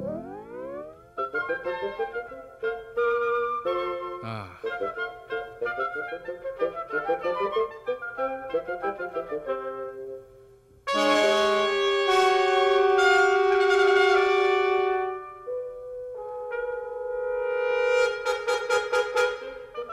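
Instrumental music plays with no voices: a busy melodic passage gives way to loud, sustained brassy chords, then a quieter answering phrase, like two groups trading echoes.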